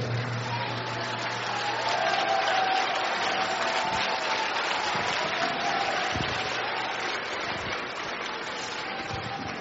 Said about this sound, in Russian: И самым хорошим пастырем, который у нас есть, это очень важно, да? Поэтому я думаю, что главные аплодисменты пастырю Сандею.